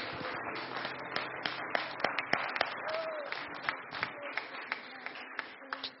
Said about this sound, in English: Somebody clap their hands unto the Lord in Jesus' name.